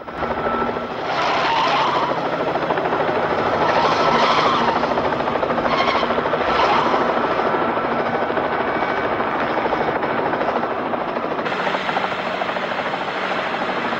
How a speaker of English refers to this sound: The helicopter flies parallel to the van with the two cars following closely.